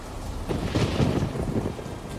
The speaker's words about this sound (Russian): Уже через несколько секунд от раскатов грома сотрясалась земля, порывы ураганного ветра стегали деревья, а небеса проливали на землю обильные потоки дождя.